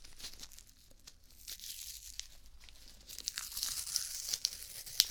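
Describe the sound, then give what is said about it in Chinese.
Adhesive medical tape, the kind stuck on the arm after an injection, being peeled and unrolled, a soft crackling tear that builds louder in the second half with sharp little snaps, no voices. “好，接下来呢，再准备一下，打完针之后贴到你手上的胶带。对，现在用的都是这种胶带了，跟之前的不太一样，之前那种成卷的，对不对？”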